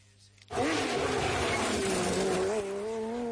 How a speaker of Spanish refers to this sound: Ya rugen los motores en Gran Canaria. Llega la 40 edición del Rally Islas Canarias, El Corte Inglés y COPE Canarias.